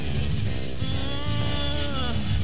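A goat bleats in a long, wavering, quavering cry lasting about two seconds, fairly loud, over a steady low rumble in the background.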